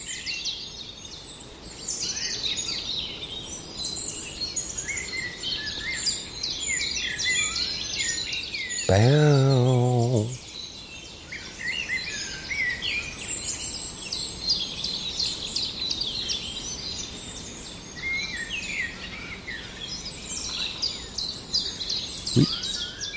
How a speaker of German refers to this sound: Da geht's los, hört hin. Die Amsel, aber ich glaube, er kommt gleich in Fahrt. Du-du-du-du-du. Du-du.